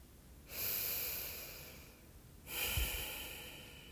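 Loud, deliberate breathing, made on purpose so the breather can hear themselves: a long, airy breath lasting about two seconds, followed straight away by a second forceful breath. There is no talking.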